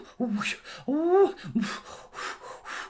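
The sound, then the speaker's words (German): Heavy, voiced gasps and sighs give way to a steady run of quick, breathy pants from two people out of breath after a snowball fight, dropped down in the snow, fairly loud, with no talking. “Nach einer Weile sind die beiden ganz schön außer Atem. Sie lassen sich in den Schnee fallen und schnaufen einmal tief durch.”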